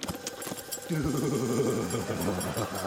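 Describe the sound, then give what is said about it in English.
A Bowser Bed vibrating pad for dogs switches on about a second in, giving a steady low mechanical buzz with a slightly wavering pitch that hums on until the end. “Bowser Bed, the vibrating pad for dogs.”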